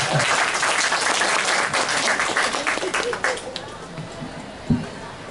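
A crowd applauds with dense, steady clapping that gradually thins and fades toward the end, leaving a few scattered claps and a soft thump.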